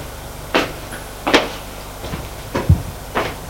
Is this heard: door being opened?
yes